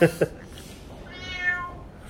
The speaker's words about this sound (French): Et il y a le chat. Et il y a notre mascotte, Zé. Zé, le chat qui proteste.